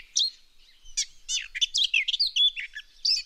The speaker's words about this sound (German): Du meinst dieses Gartengras-Dings? Es ist die Gartengrasmücke.